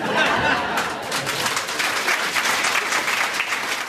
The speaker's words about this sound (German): Posthumer Applaus für den verstorbenen Unternehmer Ernst Pfenniger, der FDP-Patron mit kommunistischen Ideen.